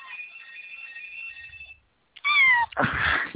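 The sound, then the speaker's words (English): A steady electronic ringing tone fades out, then after a short pause a cat lets out a loud meow followed by a harsher, raspy cry. No one speaks. “Cat move. Sorry.”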